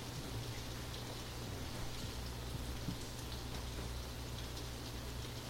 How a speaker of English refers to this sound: now the rain is up. Yeah, now the rain's up.